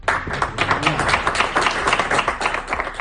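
crowd, applause

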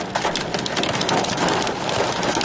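nature, hail falling

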